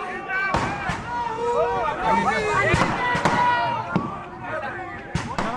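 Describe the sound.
Sharp firecracker bangs burst at irregular intervals over a lively crowd celebrating election results at the Congress party office. A dense babble of many voices and cheering fills the space between the cracks.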